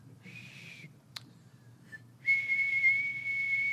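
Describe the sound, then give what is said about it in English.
Someone whistles a steady, high-pitched single note imitating the 2,600 hertz telephone signal that marked a line as free: a short, softer attempt, a brief click, then a louder, longer sustained whistle held until the end. “And when a line was free, the telephone company would send a signal of 2,600 hertz.”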